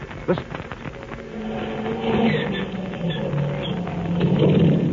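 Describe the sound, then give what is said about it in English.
Both engines of a repaired amphibian aircraft starting up on a riverbank before takeoff: a few sputtering pops, then a steady, rumbling drone with a low humming tone that swells louder toward the end. “There we are, both engines started.”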